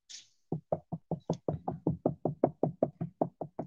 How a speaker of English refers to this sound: The sahaba, they would come to the door of Nabi sallallahu alayhi wa sallam, when they would knock, they would use the tip of their fingers.